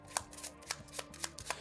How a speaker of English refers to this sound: Let's shuffle the villain deck a few times here.